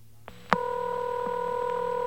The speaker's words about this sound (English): Now I hear a ringing, but I don't hear any pickups. That, incidentally, folks, is a crossbar ring, number 5 crossbar. One of a dying breed.